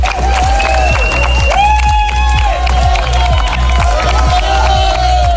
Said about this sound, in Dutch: Ja, en dit is gejuich voor de eerste lopers van de dodentocht die rond 7 uur vanmorgen aangekomen zijn. Ze liepen de 100 kilometer in amper 10 uur tijd.